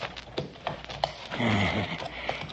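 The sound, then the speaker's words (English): A horse shifts restlessly, hooves scuffing and knocking a few times, with a short snorting, breathy nicker rising in the middle. No one speaks. “Easy, horse. Easy.”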